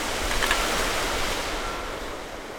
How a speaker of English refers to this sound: And when we look straight ahead, we see ocean, ocean, and more ocean.